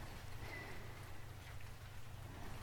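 rain falling

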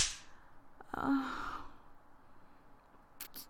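hand slapping skin

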